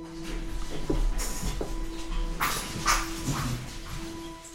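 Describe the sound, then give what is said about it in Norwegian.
As the door of an apartment block in eastern Oslo opens, three small Pomeranians come running, giving a few short, sharp high-pitched yips and scrabbling noises over a steady low hum; no one speaks. “Når døra går opp, hører vi lyden av tre små Pomeranians som kommer springende mot oss.”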